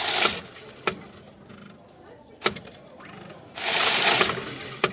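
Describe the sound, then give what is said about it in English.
A coin-counting machine at a newly opened Metro Bank in Britain runs with a steady mechanical whir and rattle, punctuated by a few sharp clicks and surging bursts of bright, hissing clatter as coins pour through. “With innovations like this coin-counting machine and 7 days a week opening, Hill hopes to shake up Britain's retail banking market, highly concentrated by American standards.”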